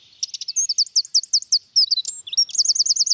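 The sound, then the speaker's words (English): A wren sings a loud, rapid song of high, bright trills and chirps, repeating quick looping notes in bursts with brief pauses, with no other sounds. “They make sound through the larynx, which uses just 2% of the air in the lungs, which is why the wren is so loud.”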